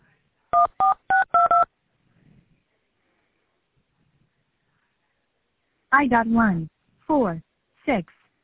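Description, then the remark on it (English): A quick run of telephone keypad tones, short steady beeps in rapid succession as a 5-digit zip code is punched in on an automated customer service call to schedule a pickup, followed by a few seconds of silence and then a voice speaking. “Please enter your 5-digit zip code.”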